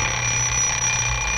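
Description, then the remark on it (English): A novelty clock rings loudly and continuously with a steady, sustained, bright electronic-sounding tone and a low hum beneath, filling the whole short moment without any voices. “It's our crazy clock.”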